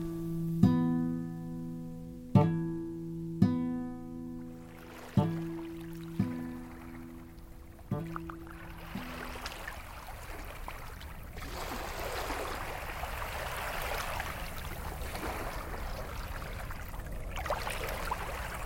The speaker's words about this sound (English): On these shores, where the water laps against the rocks day in, day out